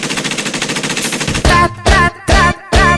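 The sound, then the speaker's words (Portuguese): A rapid, steady rattle of machine gun fire runs for over a second, then gives way to four loud, evenly spaced sustained blasts with a ringing tonal edge, like stabs in a beat. “Pega a metralhadora.”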